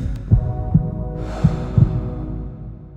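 A heartbeat thumps low and muffled in a steady lub-dub rhythm, a few beats over a constant hum, with a faint hiss of noise rising partway through. No one speaks.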